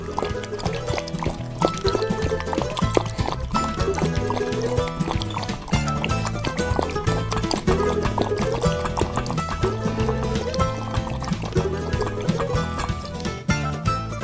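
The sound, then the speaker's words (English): Water pours and splashes steadily for the whole stretch, a dense, continuous liquid rush with faint repeating gurgles, even in loudness, with no voices. “Finish up with some water, and we'll look for you next week.”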